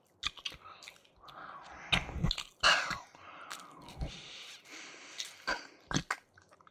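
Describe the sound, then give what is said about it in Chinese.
Wet, smacking licking sounds come in irregular bursts, with soft slurps between a few sharper clicks of the tongue and mouth, as a cat licks its owner's ear. No one speaks. “就算舔爪子是小猫的本能，可对主人的耳朵这样做也太……”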